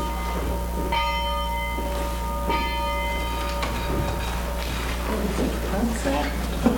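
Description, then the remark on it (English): A church bell rings out at 5:30 with two clear strikes about a second and a half apart, each leaving a long ringing hum over a steady low background, with faint voices murmuring afterward. “Why is the bell ringing at 5:30?”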